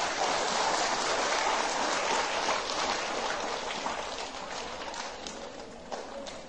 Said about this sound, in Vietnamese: Dành một tràng vỗ tay thật lớn.